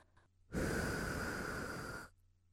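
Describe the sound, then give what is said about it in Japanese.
A single soft breath blown into the ear: one steady, airy whoosh lasting about a second and a half, starting and stopping fairly abruptly, with no voice. “ふーって息を吹きかけられるときっと気持ちよくなっちゃうんだ。”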